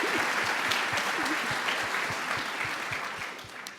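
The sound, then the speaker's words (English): An audience applauds steadily as thanks to their partners, the NOC, a dense wash of many hands clapping at once that holds strong throughout, then begins to ease off slightly toward the end. “therefore, let's give a big thanks to our reliable partners. The NOC. Applause.”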